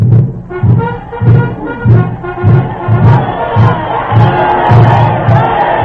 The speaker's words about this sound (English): The spectators are wildly cheering the exploits of their legendary hero, Tamburlaine, shouting their approval at the top of their lungs